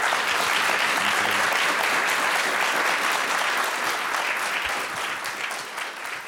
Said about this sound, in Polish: Wielkie brawa poprosimy.